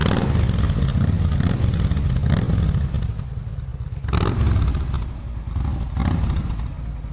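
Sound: harley-Davidson motorcycle engine running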